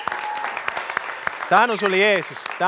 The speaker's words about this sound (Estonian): Kas ta väärib ühte aplausi? Amen!